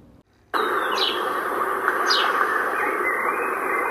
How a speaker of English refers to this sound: A tweety, tweet, treat went the birds.